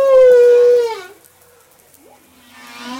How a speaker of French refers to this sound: Alors aidez-nous Olivier Adam à analyser un chant de baleine que vous avez enregistré au large de Madagascar.